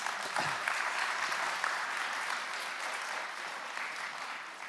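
An audience at a Sunday morning church service claps steadily for several seconds, a dense, even wash of many hands that stays fairly loud throughout and tapers slightly at the end.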